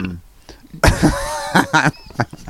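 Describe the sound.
A loud, drawn-out burp erupts, rough and voiced, followed by a couple of shorter throaty bursts, with faint talking murmured before it.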